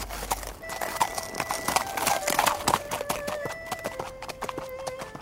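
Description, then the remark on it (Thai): Horse hooves clip-clop in a steady walking rhythm, each sharp knock clear, while a faint sustained tone hums in the background and no one speaks. Tang Sanzang rides his horse into a village up to the fence gate. “พระถังซัมจั๋งขับม้าเดินเข้าไปยังหมู่บ้านถึงประตูรั้ว”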